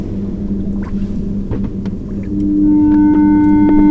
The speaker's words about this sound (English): Hold on. No, there's a boat coming.